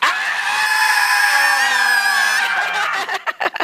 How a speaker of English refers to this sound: I want you to put your arms in the air. And then I want you to scream as loud as possible on three. One, two, three.